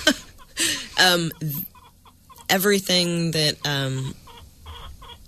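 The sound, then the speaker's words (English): Backyard chickens cluck in a run of loud bursts, a few short calls, then a pause, then longer drawn-out squawking clucks, with quieter murmuring in the gaps. “Safety with backyard chickens.”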